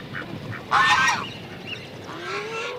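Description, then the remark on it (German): Geese that came from the cold north to winter here honk in a loose series, one loud, harsh burst of overlapping calls standing out among several fainter honks spread before and after it, with no voices present. “Die Flügelspanne dieser Tiere ist beeindruckend. Bei den Gänsen liegt sie, bis auf wenige Ausnahmen, bei 1,5 Metern und bei den Schwänen über 2,5 Meter.”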